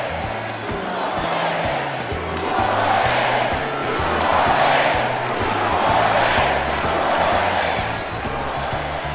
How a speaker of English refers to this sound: Okay, in case you're wondering, what is that crowd saying? They're saying two more days. Of course, if they have another rally today, and they will, it'll be down to one more day.